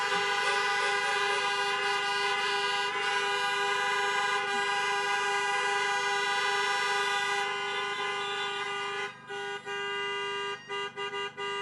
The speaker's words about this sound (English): So graduates, honk the heck out of those horns for your faculty and staff.